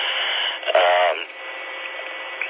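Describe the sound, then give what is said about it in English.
A short, half-second tonal data burst with a buzzy, harmonic edge, a radio repeater link acknowledgment burst, cuts through steady narrowband radio hiss, then the static carries on, hollow and noisy, until the end. “It may be just an RF report saying, okay, you know, received your link.”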